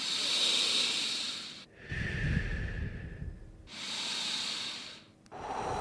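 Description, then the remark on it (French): Slow, deep breaths during a guided relaxation exercise, alternating airy inhales and lower exhales, roughly two full cycles in a steady unhurried rhythm with no talking. “On peut fermer les yeux, on va simplement respirer quelques fois.”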